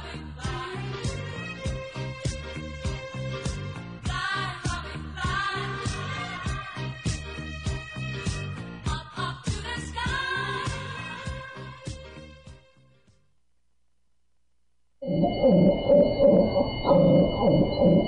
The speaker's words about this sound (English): That's the sound of a dog whose vocal cords were cut just to stifle her voice. It's called devocalization, and it's done to cats as well. Devocalized animals rasp and wheeze, cough and gag the rest of their lives.